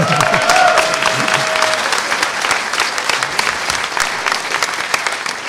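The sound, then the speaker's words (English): A studio audience breaks into loud, sustained applause, dense clapping lasting several seconds, with a brief tonal whistle-like sound near the start. “I can fail and still get applause.”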